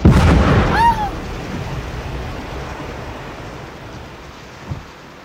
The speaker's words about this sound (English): When the last siren had died, the last boat had gone, we stood there, just Terry and me and the rolling, crashing sea.